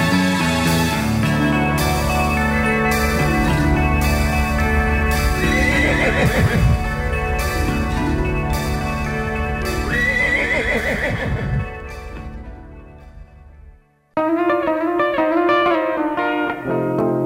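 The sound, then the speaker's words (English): A horse whinnies twice amid a steady clip-clop of hooves, all layered over loud, sustained music. Near the end the sound cuts out abruptly and a different tune begins. “I'm Pegasus the flying horse.”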